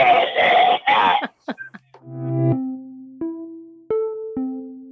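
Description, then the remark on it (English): Two loud, rasping hacking coughs burst out, exaggerated and deliberate, made with the head stuck inside an opened jacket, followed by a few short gasps and then drawn-out, wavering vocal tones. “You cough like you're about to... Like one of your lungs is coming out.”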